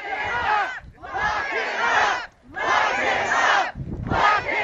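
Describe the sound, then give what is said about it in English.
A protest crowd at Bangor International Airport in Maine chants in unison as Air Force One prepares to touch down, loud shouted phrases and expletives repeating in about four rhythmic bursts separated by brief pauses. “As Air Force One prepared to touch down at the Bangor International Airport just before 2 o'clock, the group erupted in expletives and chants.”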